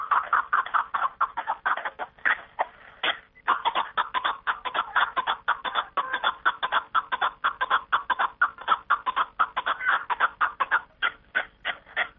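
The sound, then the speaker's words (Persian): A chukar partridge (kapak-e dari), called the ornament of the mountains, calls continuously, a rapid series of harsh clucking chuk notes repeated in a steady rhythm, loud, with only a brief pause early on and no voices. “از این رو آنها میگویند زیب کوهساران کپک است و خوانش آن که دره و بیش از آران را آدم و تاز است و خوانش و خیرامش عیب و جلوه میدهد بیننده را یک کیفیت خاصه گوارای میبخشیده است.”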